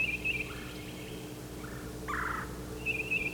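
Bird calls trade back and forth between birds, one of them down at the crossing: short, high, trilling notes repeat at the start and end, with a louder warbling call in the middle, over a steady low hum.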